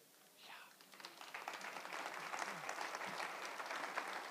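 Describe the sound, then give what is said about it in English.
An audience breaks into applause that swells after a brief moment and then holds steady as a dense, continuous patter of many hands clapping. “Now, you clap, and I've been asking, is that inspiring a little bit?”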